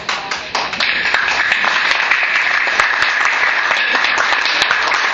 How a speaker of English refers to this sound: There has been a lot of people willing to make accommodations in order to make this meeting work, and I think we all should applaud their cooperation.